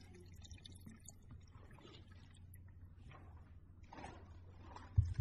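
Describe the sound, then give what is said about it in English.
Water is poured into a glass, a soft, steady trickle with a gentle gurgle that rises as it fills, heard faintly over a low room hum, ending with a light clink. “Yeah, if there's any water in there.”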